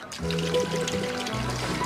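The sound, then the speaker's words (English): Wine glugs steadily from a bottle as it is poured out, a continuous pour with a rising, hollow gurgle as the liquid level shifts, lasting a couple of seconds with no talking. “I'm just gonna pour the wine out.”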